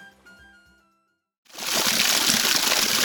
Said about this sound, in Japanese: あいやー、川が滝のようになってますよ。両岸も狭いし、川底も相当深いですよ、武四郎さん。